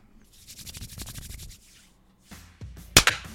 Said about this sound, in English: Let's clap at 22. 22.